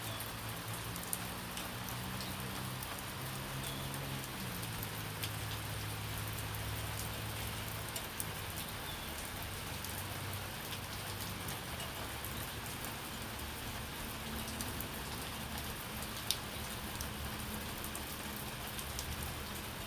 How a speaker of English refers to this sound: The different surfaces that the rain hits is causing a symphony of its own kind. We have the broken roof with moss growing on the